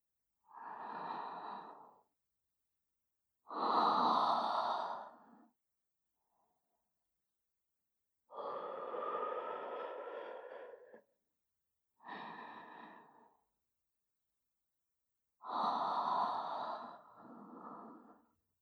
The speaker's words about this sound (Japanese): このまま、吐息の方もお確かめを。